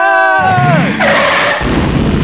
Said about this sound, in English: It's sad, really. Two teenagers killed in a preventable car accident.